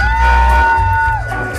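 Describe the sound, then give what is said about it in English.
An audience cheers loudly for the Sin Inferno Go Go Dancers, with a long, steady high-pitched whoop or whistle held over a dense crowd roar that eases off near the end. “give a huge round of applause to the Sin Inferno Go Go Dancers.”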